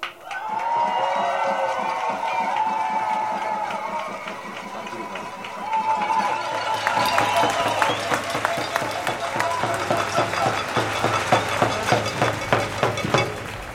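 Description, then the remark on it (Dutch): A crowd at a pro-Palestine rally in the Netherlands cheers and whoops loudly after a speech by Tofik Dibi, then breaks into dense, sustained applause, many hands clapping in a continuous roar that stays strong until the end. “Nogmaals een groot applaus voor Tofik Dibi, alsjeblieft.”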